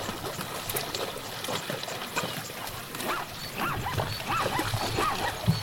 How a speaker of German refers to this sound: Das hier sind Zebras, die in Ufernähe durchs flache Wasser laufen.